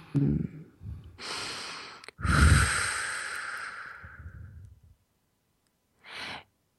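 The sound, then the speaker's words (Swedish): A deep breath taken before singing: a noisy inhale, then a long, heavy exhale like a sigh, and after a pause a short final intake of air. No talking. “Ska bara andas.”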